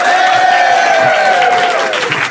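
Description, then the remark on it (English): A studio audience applauds loudly and steadily, with clapping blending into a continuous roar and sustained cheering whoops riding on top, holding for a couple of seconds. “And this is what a live studio audience applauding sounds like.”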